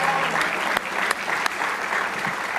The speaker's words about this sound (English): Somebody say praise the Lord. Give him a nice hand clap of praise if you love him with all your heart.